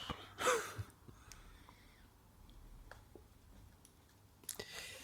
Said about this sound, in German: Stift schreibt.